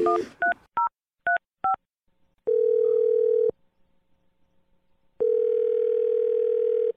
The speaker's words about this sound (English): Whatever. Let's just dial the phone number.